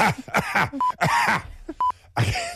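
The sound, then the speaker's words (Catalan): A voice imitates a theatre audience member's string of harsh, throaty coughs in the middle of an actor's sentence, several quick bursts, interrupted by two short, steady electronic beeps. “El problema és quan al mig d'una frase hi ha algú que li ve la tos i fa...”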